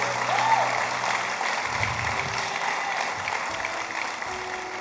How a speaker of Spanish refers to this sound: En el nombre de Jesús. Vamos, denle un aplauso. Si usted lo entiende, si usted lo cree.